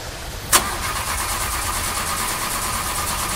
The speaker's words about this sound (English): Damn it! What? Ah, car! Don't start. This happened before.